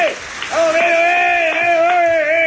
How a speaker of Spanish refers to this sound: Vamos. Ese fue el primer aplauso.